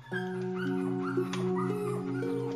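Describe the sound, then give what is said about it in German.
Puppies whimper and yip while play-fighting wildly, a run of short, rising-and-falling squeals over a steady low humming drone that lasts throughout. “Dann fangen einige der Welpen an zu raufen. Dabei geht es ganz schön wild zu.”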